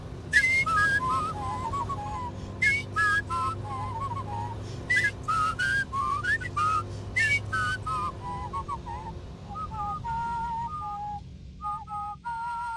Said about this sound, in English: You let me drive to my heart's content down the windy back roads of East Cork whilst you orchestrate our whistling duet.